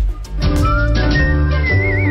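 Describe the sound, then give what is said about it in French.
A professional female whistler carries a clear, sustained melody, the pitch gliding upward and ending in a wavering vibrato, over a full instrumental backing. The whistling is loud, and no one speaks. “Elle siffle. Elle est siffleuse professionnelle.”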